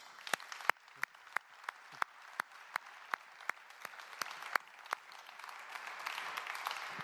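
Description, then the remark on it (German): Audience applause sent as a greeting to Kriegwenica, starting with a steady rhythm of sharp, distinct claps, then thickening into a fuller, continuous wash of clapping toward the end. No one speaks. “Wir schicken einen Applaus nach Kriegwenica.”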